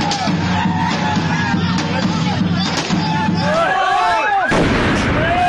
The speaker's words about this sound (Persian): اما در دهه های اخیر هیجان این شادمانی با صدای گاه و بیگاه انفجار ترقه های دستساز و مواد محترقه در کوچه و خیابان ها گره خورده و کام بسیاری از خانواده های ایرانی را تلخ کرده.